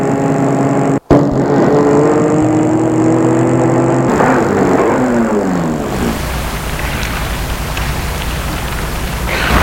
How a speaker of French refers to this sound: Il arrive devant l'immeuble où habite Harold. Il va arrêter sa voiture.